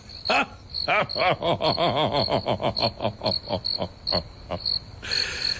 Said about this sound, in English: But it seems like only the crickets have gotten my joke here, huh?